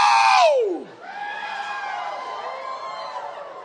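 An audience shouts a long "whoa!" together: a loud cry that swoops downward in pitch, then a sustained wash of many overlapping voices holding the sound before it tapers off.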